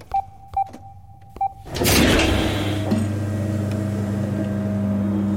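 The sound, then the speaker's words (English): A few short electronic beeps sound, then a loud whoosh gives way to a steady mechanical rumble and hum as a large metal door, one of many lining the walls, with a control panel beside it, slides open. No one speaks. “As the door slid open, lights illuminated a large figure.”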